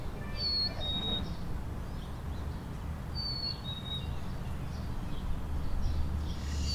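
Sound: bird chirping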